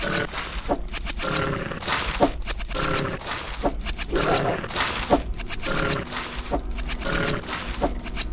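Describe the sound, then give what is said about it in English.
A video game battle against a werewolf and wolves in Misty Area 3, played on Windows, with wolves growling and snarling amid repeated sharp impact hits and swooshes, loud and busy throughout, with no one talking. “Some werewolf has anticipated the herd and blocks Elian's way, along with some wolves.”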